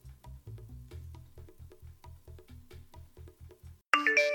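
A steady run of low, rhythmic thumps gives way to a sudden bright, chiming phone text-message alert that rings out loudly at the very end.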